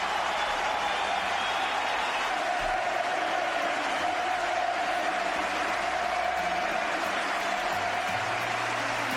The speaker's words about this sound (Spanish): Pide al público que ovacione a Ferrer.